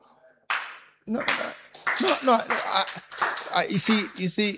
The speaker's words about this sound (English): Don't clap. You don't understand how it is a great miracle. So when you clap, you miss the point of the I'm trying to make this morning.